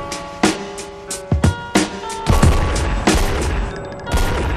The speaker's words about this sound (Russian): Бам-бам-бам, это три выстрела. Бам-бам-бам, три тела на пол быстро.